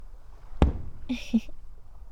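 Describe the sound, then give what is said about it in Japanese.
A single firework bursts with a sharp boom that fades quickly, followed by a brief, softer crackle, then quiet. “でも、ガラス越しよりも、こっちの方が、断然迫力あるんですよね。花火。”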